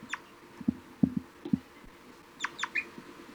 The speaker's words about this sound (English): 3-3 responding with a few toops. One of the juveniles giving begging.